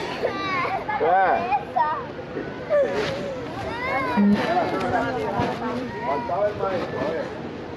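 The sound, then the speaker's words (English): Several young children wail and sob at once, crying for their parents while Border Patrol agents mock them, in a recording published by ProPublica. Their high, quavering cries overlap in a dense, continuous clamor that stays loud for the whole stretch. “The audio of children screaming and sobbing for their parents while being mocked by Border Patrol agents went viral.”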